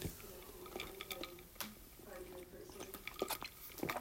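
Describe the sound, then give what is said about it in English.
Quiet sipping of water, with a scatter of small wet clicks and mouth noises spread across a few seconds and no talking. “Think about it here for just a moment while I have a sip of water to keep myself awake.”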